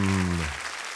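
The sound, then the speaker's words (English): An audience claps steadily in a dense wash of applause for the host of the television game show The Great Contest, loud and continuous, with a sustained low tone ringing under it for the first half before fading. “And give a big round of applause to your host.”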